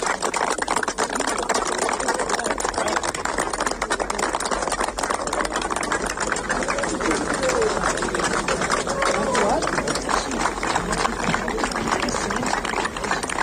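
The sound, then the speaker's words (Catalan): Firefighters, Mossos police officers and journalists at the firefighters' forward command post for a search applaud steadily and loudly for over ten seconds on news that a missing three-year-old child has been found, a dense unbroken patter of many clapping hands with voices mixed into the noise. “El que hi ha uns aplaudiments que no poden reprimir els bombers, els Mossos, els periodistes...”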